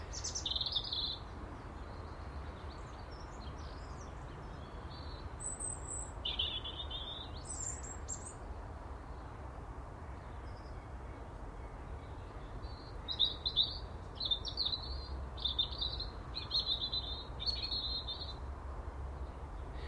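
bird, birdsong

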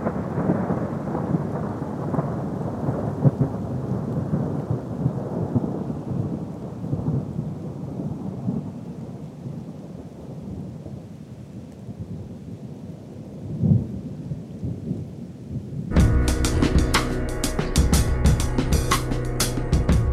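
nature, heavy rain with thunder

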